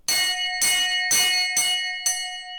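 A small hanging bell at a convent, pulled by a nun, rung five times in quick succession, each clang bright and tinny, ringing on and overlapping the next. Fairly loud, with no voices.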